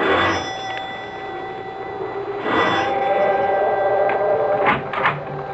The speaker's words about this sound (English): However, after a moment, she made her way to the large oak door and rang the bell.